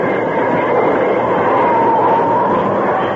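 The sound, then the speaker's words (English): A steam train brakes and grinds to a halt, a loud, dense rumble of rolling iron with a thin metallic squeal running through it, fading slightly as it settles at the end. “As the train jerked to a stop, the outlaws in the first cattle car were thrown off their feet.”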